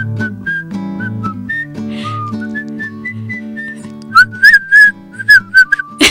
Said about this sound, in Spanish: Ese fue mi intento de silbar.